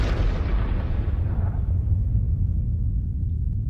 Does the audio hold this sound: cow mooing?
no